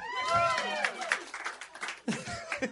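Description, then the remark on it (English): Brief audience applause: scattered claps mixed with whoops and excited voices, lasting a few seconds before fading into chatter and a short laugh. “It's the only time that's ever gotten applause.”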